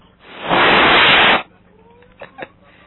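A loud, steady rush of breathy air blown into a microphone lasts about a second, then cuts off, followed by two brief, faint bursts of sound.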